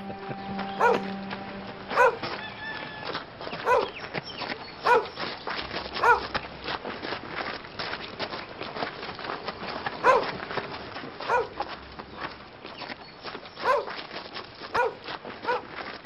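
Dogs, to be let loose in the courtyard of a house in the evening as guards, bark repeatedly at uneven intervals, sharp distinct woofs cutting through a steady background hiss, moderately loud, with no talking.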